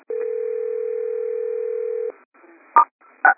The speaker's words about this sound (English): And if somebody has a phone ringing, could you star 6?